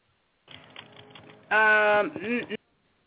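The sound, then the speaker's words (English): About a second of quick, irregular clicks from typing on a computer keyboard is followed by a loud burst of voice that drowns them out, then the sound cuts off abruptly. “I had myself on mute because I was typing.”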